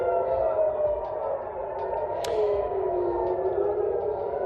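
Air raid sirens, set off by Iranian missiles, wail continuously, a sustained mid-pitched tone that slowly bends and wavers over a low rumbling background, with a brief sharp click partway through. No one speaks.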